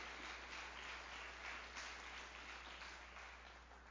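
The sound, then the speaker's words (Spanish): An audience applauds steadily during a church sermon, giving applause to the Lord: a dense crackle of many hands clapping at once, sustained at an even level for a few seconds before easing slightly toward the end. “Dale un aplauso al Señor si lo quiere dar.”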